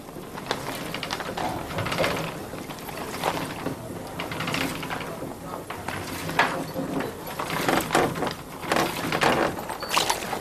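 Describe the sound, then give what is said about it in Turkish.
A wooden loom weaving fine royal linen in a palace weaving workshop clatters and ratchets steadily, with repeated knocking beats and rattling mechanical clicks over a continuous busy hum, while a voice speaks faintly underneath. “Bu atölyede yalnızca sarayda yaşayanlar için keten dokunur.”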